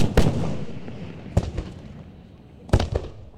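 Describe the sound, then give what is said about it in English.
Fireworks show bursting outdoors over the Brazos River in Waco after Baylor's Traditions Rally, in several sharp booming cracks, some clustered in quick pairs, over a continuous low rumble and crowd-like background wash. “That was followed by a fireworks show over the Brazos River.”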